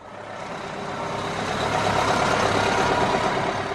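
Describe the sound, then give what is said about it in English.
Heavy diesel engines of four buses idle steadily at a cruise ship dock in Juneau, Alaska, as the year's first cruise passengers walk down the ship's ramp; a broad rumbling drone that swells slightly and holds, with faint tonal hums on top and no voices. “4 buses line up as the first passengers of the year walk down the Carnival Spirits ramp to one of Juneau's cruise ship docks.”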